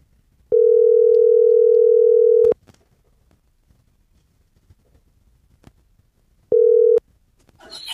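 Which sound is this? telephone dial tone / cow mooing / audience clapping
telephone dial tone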